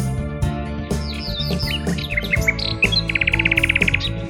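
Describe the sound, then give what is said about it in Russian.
A nightingale sings varied, sliding whistles and chirps, ending in a fast, rattling trill, clear over steady instrumental music playing underneath. “Напевную послушаю я песню соловья, и может что соловушка подскажет для меня.”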